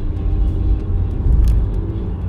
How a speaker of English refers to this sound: Whereas here I'm actually in my car driving. So, a little bit of road noise, I do apologize.